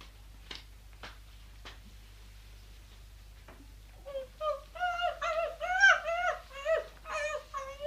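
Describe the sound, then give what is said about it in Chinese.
A few soft clicking sounds as a dog eats a piece of poisoned meat, then it whimpers and whines in rising, strained cries for several seconds as it dies of the poison, moderately loud, with no talking. “人 嚟， 系 攞一块俾只狗食啦。”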